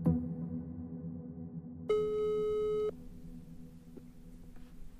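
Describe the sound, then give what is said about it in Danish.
A single steady telephone ringback tone sounds for about a second, as an Ekstra Bladet journalist places an outgoing call to Abu Jihad, clear and fairly loud over a low background hum, with no one speaking. “Vi ringer til Abu Jihad for at spørge ind til Team Davas kvindegruppe.”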